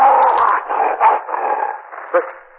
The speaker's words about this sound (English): Turn that light off. Turn it off. The wolf's coming for me.